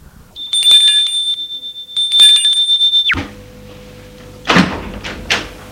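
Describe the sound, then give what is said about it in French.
An apartment doorbell rings in two bright bursts over a sustained high tone that cuts off abruptly, followed by a low hum and a couple of door-like knocks and clatters. “Et s'il y a sa mère qui ne connaît pas, il sonne.”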